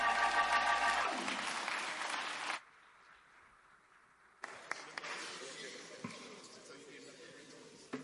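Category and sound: crowd, audience clapping hands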